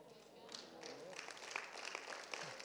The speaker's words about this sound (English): God can do these things. Yeah, we applaud and we are happy when these things happen.